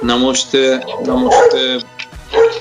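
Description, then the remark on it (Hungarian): A dog barks repeatedly next door in short, sharp bursts at an uneven rhythm, sounding somewhat muffled, with a person talking over it. “Közben ugatni a szomszédba.”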